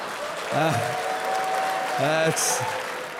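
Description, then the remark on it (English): Steady audience applause at a stand-up comedy show, in a venue with a chandelier, fills the whole clip at an even level, with a couple of brief voiced calls or cheers rising above the clapping. “I love that I'm getting applause breaks on dead baby jokes in a room that has a chandelier.”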